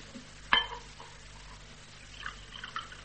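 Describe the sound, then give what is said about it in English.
A glass clinks sharply once, then soft, faint liquid sounds follow as someone quietly sips water, with no talking. “Do take your time. Have a sip of water if it helps.”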